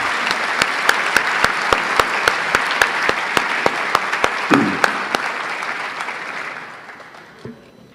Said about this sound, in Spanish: Un aplauso les pido para los grandes organizadores de esta segunda convención.